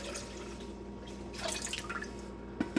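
Chicken stock from one big container pours and splashes into a crock pot holding 2 cups of rice for about a second against a low background hum, followed by a couple of soft drips or clunks. The sound is fairly quiet.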